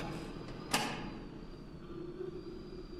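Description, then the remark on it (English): A door shuts once with a short, muffled thud near the start, followed by a steady low hum and quiet room tone. No one speaks. “Switching off the music to give her peace, they closed the door.”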